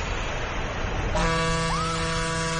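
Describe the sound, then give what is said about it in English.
Steady road noise gives way to a loud, sustained car horn blast that begins partway through and holds without a break until the end. No voices are heard. “I got him to honk.”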